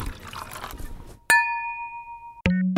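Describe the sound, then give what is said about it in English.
Glasses clink together twice in a toast, each strike sharp and bright with a clear ringing tone that hangs in the air, following a brief stretch of rustling, pouring-like noise. “Hey, if that's what it takes to get us on stage again for a live event someday in the future, I'll drink to that.”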